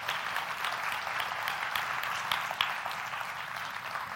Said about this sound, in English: And again, give him one more hand or a round of applause.